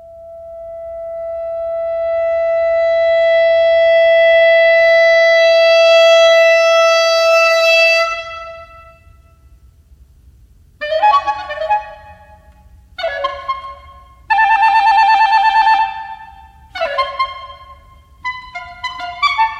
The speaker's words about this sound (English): The Abyss of the Birds is a solo clarinet movement within that piece where you hear plenty of birdsong and also this kind of piercingly intense beauty from the clarinet.